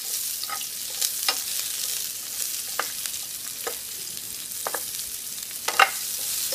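Bell peppers and onions sauté in about a tablespoon of olive oil with a steady, hissing sizzle, broken by scattered bright pops and crackles and the occasional scrape of a stirring utensil.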